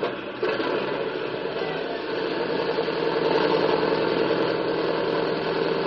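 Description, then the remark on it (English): A large plane's engines drone steadily as it taxis to the end of the strip, a dense, even rumble with a faint rhythmic throb that holds at constant loudness throughout, with no voices. “The big plane taxis to the end of the strip, halts for clearance from the tower, and then roars down the runway.”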